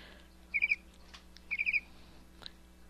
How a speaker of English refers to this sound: Oop, that's the click sound. That's the bird sound.